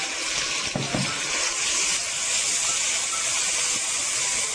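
Steady, loud sizzling of marinated beef frying in hot oil in a wok, turned over with chopsticks, fills the whole stretch with a bright, crackling hiss, with a brief clatter near the start and no talking.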